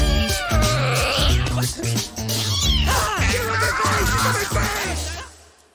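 A cat meows loudly and repeatedly in long, drawn-out, insistent yowls, with the calls running almost continuously for several seconds before trailing off.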